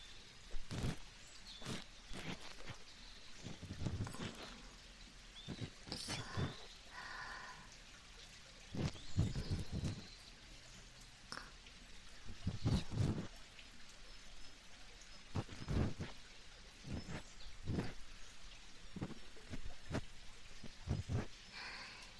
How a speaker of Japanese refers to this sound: はい、近くに小川が流れるロケーションにしてみました。柔らかい綿棒でゆっくり優しくこすっていきますから、川のせせらぎも一緒に楽しんでくださいね。